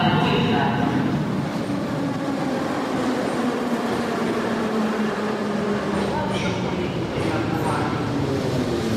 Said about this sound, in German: Jetzt warte ich hier auf die U-Bahn, die mich Richtung Maidan fahren soll.